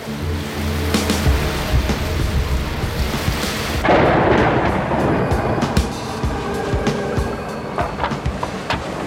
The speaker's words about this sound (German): Das Unwetter wurde im Laufe des Tages immer schlimmer. Am Abend drehte sich der Windmesser auf der Spitze der Brücke rasend schnell und das Schiff stieß seinen Bug mit aller Kraft in die Wellen, um danach wieder nach oben gedrückt zu werden.